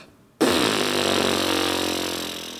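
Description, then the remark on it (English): After a brief silence, a speech pathologist makes a sudden, sustained low buzzing sound with her voice, imitating vibrating vocal folds. The rough, rattling tone stays steady for about two seconds and slowly fades. “The vocal folds start vibrating like this.”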